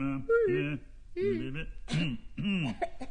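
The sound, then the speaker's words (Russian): A single voice produces four short, voiced throat-clearing sounds and soft coughs in a loose rhythm, fairly quiet, imitating six to eight tired actors, some sitting and some standing, quietly coughing at the first reading of a play in a theatre. “Одни сидят, другие стоят, и все тихонько кашляют.”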